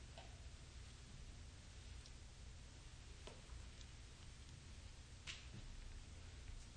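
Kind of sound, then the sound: nature, rain falling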